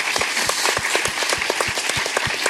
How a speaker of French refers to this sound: On peut applaudir